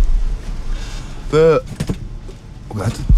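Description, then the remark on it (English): A chair being sat on gives way with a sharp creaking groan followed by a few knocks and clatters as it collapses, with faint background voices. “The chair just crashed. I'm sitting on.”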